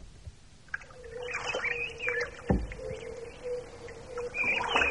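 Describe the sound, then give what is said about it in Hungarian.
Birds call repeatedly with rising chirps and whistles at a reedy lake, one perched on a reed stalk, over a steady low drone and faint water sounds, with a brief knock midway; no one speaks. “Milyen szép itt. Hányféle szín és hang. Nézze azt a madarat azon a nátszálon.”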